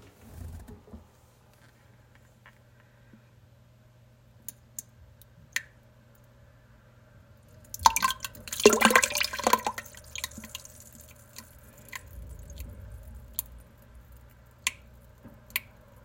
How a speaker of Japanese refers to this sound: 食べ物の話をしていたらうんちが出てきそうになりました。ちょっとスマホ近づけて音を聞いてもらいます。